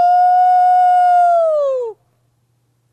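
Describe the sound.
A person lets out one long, loud howl at night as an outlet for pandemic-related stress, holding a steady pitch for about two seconds before it slides downward and cuts off, followed by silence.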